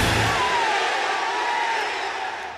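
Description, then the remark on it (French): A huge stadium crowd at the Athens 2004 Olympic Games opening ceremony applauds and cheers the athletes of the world, led by the Greek flag. A dense, steady roar, with a faint thin whistle-like tone drifting through the middle before the noise eases slightly at the end. “Welcome them. Applaudissez-les.”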